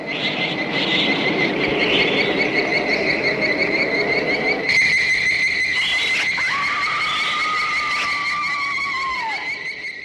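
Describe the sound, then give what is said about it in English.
An eerie giant-ant sound effect from the old monster movie Them: a loud, sustained high-pitched shrill trilling whine that pulses steadily, joined midway by a sliding squeal, with no voices. “You know that sound that they use for the ants.”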